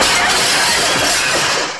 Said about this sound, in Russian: Казадоев пытается отнять микрофон у Семена Семеновича, и они вместе падают. Семен Семенович случайно разбивает стулом окно.